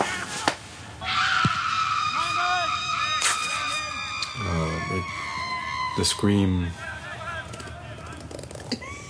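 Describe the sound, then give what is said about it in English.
A long, piercing recorded human scream from a scream archive holds a high, wavering pitch for several seconds, loud, with shorter lower vocal bursts and a busy, noisy background underneath. “The scream.”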